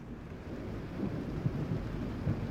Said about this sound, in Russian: Гроза.